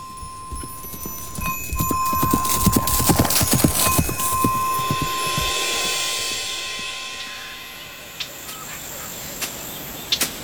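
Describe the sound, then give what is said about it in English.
Horse hooves clip-clop steadily, a brisk rhythmic clatter over a constant high chirring of crickets and insects, fading into quieter insect buzz near the end. “See no harm comes to the horse.”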